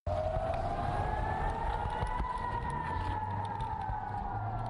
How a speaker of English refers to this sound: Air raid sirens and missiles are heard in the skies over Israel as Israeli Defense Forces early Tuesday fired its Iron Dome anti-missile system at rockets fired from Palestine.